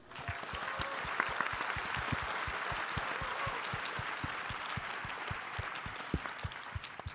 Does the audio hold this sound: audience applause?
yes